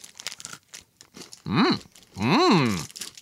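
Crisp crunching and chewing of a Hraun chocolate bar with big pieces of puffed rice, a quick run of crackly bites, followed by two drawn-out, pitch-swooping hums of enjoyment from the eater.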